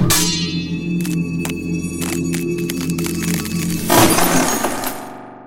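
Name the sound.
steel sword blade shattering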